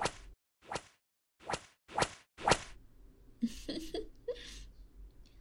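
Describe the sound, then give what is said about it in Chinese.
Five sharp whip lashes strike a back in a steady rhythm, each a loud snapping swish, followed by muffled, stifled cries and whimpers through a towel stuffed in the mouth. “被毛巾堵住嘴巴就叫不了了呢，那就先用鞭子在你背上抽一下。”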